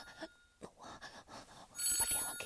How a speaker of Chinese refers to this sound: 我电话响了。我，等一下，真是我电话，我电话就这个声音呢，快！